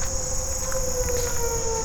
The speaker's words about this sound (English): While all the tornado sirens start to die down.